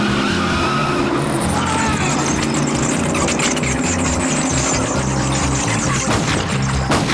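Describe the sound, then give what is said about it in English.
A convertible car skids loudly to a stop on a sidewalk, tires squealing with a harsh, gritty screech over a rumbling engine that keeps running for several seconds. “You can't park your car here. Why not? Is this not a reasonable place to park? Reasonable? You're on a sidewalk.”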